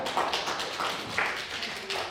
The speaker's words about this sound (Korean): 우리 뒤에 계시는 우리 방송하시는 우리 권사님 잘하시라고 한번 격려의 박수 한번 하겠습니다.